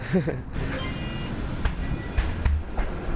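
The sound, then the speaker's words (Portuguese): Boarding a number 60 city bus in Lisbon, Portugal, heading to Cais do Sodré: a steady low engine rumble fills the space, broken by a few sharp clunks and clicks, with a faint electronic beep and murmuring voices in the background. “Sugiro que continuemos a nossa conversa no autocarro, no 60, vamos até ao Cais do Sodré.”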